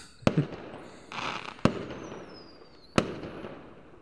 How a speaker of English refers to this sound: I mean, the fireworks are beautiful too, yeah.